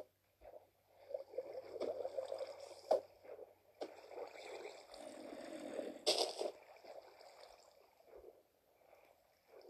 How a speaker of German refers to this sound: Hä? Das ist so eine Wasserquelle.